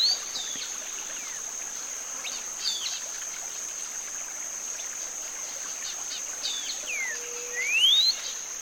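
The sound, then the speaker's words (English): A cinnamon-bellied saltator sings short, varied whistled phrases in a morning chorus, spaced a few seconds apart, not repeating a phrase right away, some ending in a rising sweep like a question, over a steady high insect drone and soft background hiss. “This one doesn't repeat the same phrase right away, like the happy wren. And every phrase sounds like a question.”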